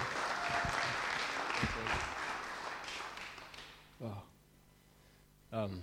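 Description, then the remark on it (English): A crowd applauds steadily for several seconds for a speaker being welcomed up, a broad burst that tapers off, followed by a couple of short spoken phrases from a single voice. “Let's clap for this guy and make him feel relaxed.”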